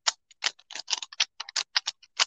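Rapid plastic clicks and snaps from a Rubik's Cube being twisted, about fifteen short bright clacks in an uneven, quick rhythm with brief pauses, no voices.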